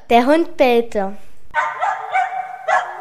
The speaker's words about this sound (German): Der Hund bellte, weil der Fuchs sich in einer Höhle versteckt hat. Es war gar nicht so leicht, den Hund von der Höhle wegzukriegen.